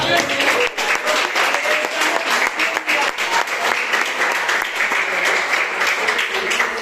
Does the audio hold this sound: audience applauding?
yes